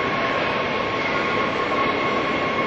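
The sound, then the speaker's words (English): A train approaching Union Station, the end station of its line, gives an eerie, high-pitched whine that rings out steadily over a dense rumbling roar, loud, with no voices. “I think the trains make kind of a haunting sound, and you'll see what I mean as it comes closer.”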